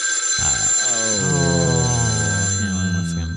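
A telephone rings loudly, a steady electronic trill lasting a few seconds with no voices over it.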